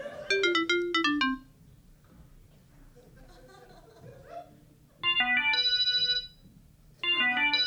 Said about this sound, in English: taking solace in the fact that your ringtones have transported you to another land